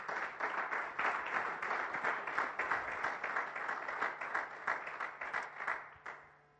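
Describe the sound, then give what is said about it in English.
An audience at Next Level claps steadily during a speaker's talk in a dense, sustained wave of applause for several seconds, staying loud and even before quickly fading out at the end. “I can tell we have a lot of new people today because we have a rule here at Next Level that when somebody claps, everyone just needs to participate because it really feels awkward on me, the speaker, when I look out and you're just staring at me”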